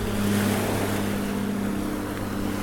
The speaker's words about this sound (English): Here, listen to the water some more.